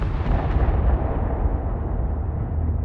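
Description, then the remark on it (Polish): A deep, muffled explosion rumbles in the distance, its low boom rolling on steadily for a few seconds and slowly dulling as it fades. No voices are heard. “Odległy, stłumiony huk dotarł do jego uszu na krótko przed potężną falą uderzeniową.”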